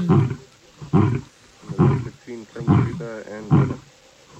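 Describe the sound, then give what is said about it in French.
A dominant, displeased lion roars in a series of deep, rumbling bursts, about six heavy grunting calls spaced evenly less than a second apart, loud, with no other sounds around them. “Il n'est pas content, le lion, là.”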